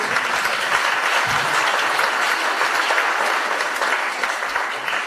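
Steady, dense applause from an audience at an art exhibition, a continuous wash of many hands clapping at an even, fairly loud level for several seconds with no voices rising above it.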